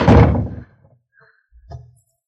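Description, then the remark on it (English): A door to a room in a house is shut with a heavy, loud thud, followed by a brief pause and then a quieter metallic click and clunk as it is locked, with no voices. “Put her in this room. Lock the door. She can't get out.”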